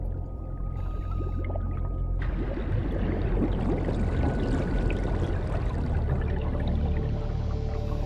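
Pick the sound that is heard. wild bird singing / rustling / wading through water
wading through water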